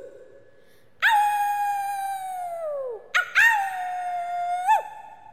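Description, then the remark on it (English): A person howls like a wolf, two long, loud wavering howls, the first sliding downward in pitch, the second steadier with a brief upward yelp at its end. No talking. “We're gonna be real werewolves tonight.”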